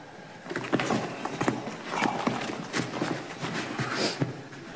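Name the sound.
horse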